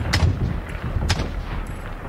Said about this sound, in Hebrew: האוטובוס לאט לאט טיפס את מלא הקרבים, ואז אני שמעתי פתאום יריות נוראיות.